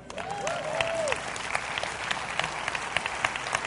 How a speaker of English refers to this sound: Yeah. Give your pastors a clap.